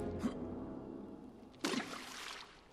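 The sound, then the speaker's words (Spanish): Merry and Pippin throw stones into water: a small splash first, then a louder, fuller splash with a brief wash of spray afterward, with no talking. “Merry y Pippin apedrean el agua.”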